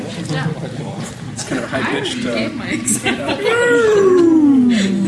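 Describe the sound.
After a few seconds of murmuring and chuckling, a voice in a class lets out a long, loud moan that slides slowly downward in pitch, a human imitation of whale song.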